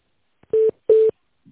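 Two short telephone keypad tones sound one after another, each a steady electronic beep lasting a fraction of a second, with a brief pause between them and no talking, as a caller dials an employee's extension after the automated greeting of the company Ruscentrsvyaz (RTsS).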